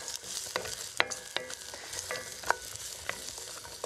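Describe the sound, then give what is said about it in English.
Onions sizzle steadily in a couple of teaspoons of hot oil in a pan at the start of a tomato pasta sauce, a continuous crackling hiss punctuated by sharp pops and the occasional clink of a utensil stirring. “Fire the onion in. I love that sizzle.”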